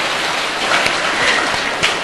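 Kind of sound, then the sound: crowd, audience applause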